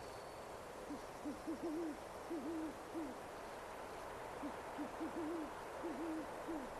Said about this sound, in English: You can hear the hoot of an owl.